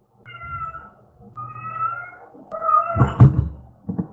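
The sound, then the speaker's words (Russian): A cat meows insistently, three drawn-out, whiny calls in quick succession, with a short thump or rustle near the end and no talking. “Заткнись нахуй, заебала мяукать.”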